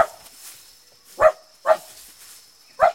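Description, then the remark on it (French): A dog barks in short, sharp bursts, four quick barks spaced unevenly over a few seconds, loud against an otherwise quiet background. “Milou, ce chien m'en fait qu'à sa tête”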